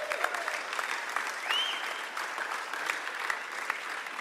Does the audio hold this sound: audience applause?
yes